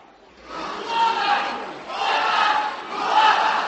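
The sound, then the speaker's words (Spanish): A large crowd shouts and cheers in three loud, rising waves, a dense roar of many voices swelling and easing, during a religious procession as the image of the Virgin is about to enter the cathedral's main altar. “Ya estáis escuchando esos gritos, que quiero dejaros que los escuchéis, ¿vale?”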